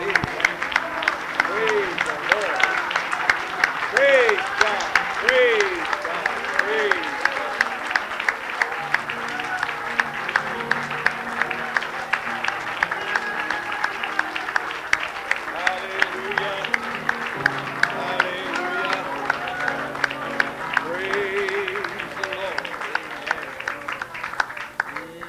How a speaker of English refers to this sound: We're looking for somebody who can get people to applaud the Lord Jesus Christ. Hallelujah. Let's applaud.